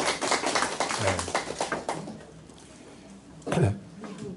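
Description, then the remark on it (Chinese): A class claps in a dense burst of applause for about two seconds to welcome two new students, then it thins out and fades, with a brief voice or cough near the end. “现场有两位新同学啊，大家热烈掌声欢迎他们。”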